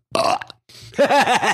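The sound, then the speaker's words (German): Two loud burps in quick succession, the first short and raspy, the second longer with a wavering, croaking pitch that rises and falls several times. “Hatte sie ja einen richtig coolen Running Gag getragen, bis wir irgendwann entschlossen haben, aufgrund der vielen Beschwerden aufzuhören zu rülpsen.”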